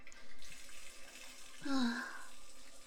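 running water

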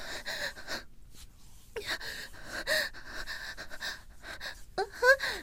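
heavy panting breaths

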